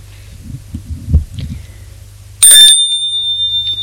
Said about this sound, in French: On a entendu la sonnette du portail.